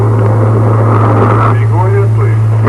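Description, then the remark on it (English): A loud, steady low drone of a helicopter engine fills a phone line throughout as a caller phones in from inside a helicopter, with a muffled voice briefly speaking over the constant rumble. “Sounds like one of our listeners is in a helicopter.”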